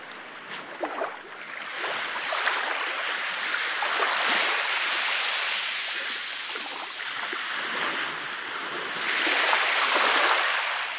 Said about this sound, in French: Ma maison est une île. Les vagues s'écrasent contre la façade. Les embruns érodent les tuiles.